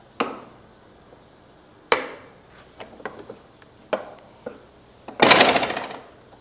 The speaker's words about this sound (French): Donc ici se trouve une des plus anciennes presses du musée, c'est-à-dire qu'elle date du milieu du 19e siècle. Et en fait, elle permet d'imprimer une page par galet, c'est-à-dire par plaque de plomb.